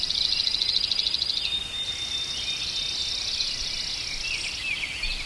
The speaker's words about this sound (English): These are some birds that I recorded at 4 a.m. one spring morning on the shores of Beaver Lake up near Lac La Biche.